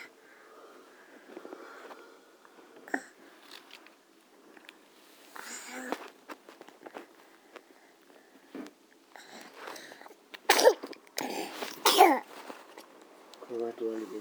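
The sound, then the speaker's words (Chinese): A cold child with a runny nose sneezes, sudden, with a couple of sharp bursts near the end, set among quiet rustling and soft voices talking in the background. “快躲里面，你躲里面，风太阳了，哎，太阳， 打喷嚏了，你都。”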